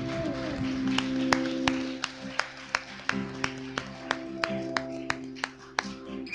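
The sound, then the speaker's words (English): Hands clap at a church service to welcome those who have just prayed to accept Jesus, in a steady beat, roughly two sharp claps per second, over sustained, droning keyboard chords with no one speaking. “Yeah, give them a hand clap.”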